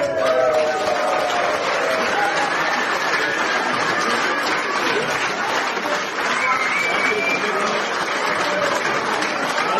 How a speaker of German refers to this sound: Genau. Euer Applaus. So. Den 14. Platz. Herzlichen Glückwunsch an Team Ruhrpiraten.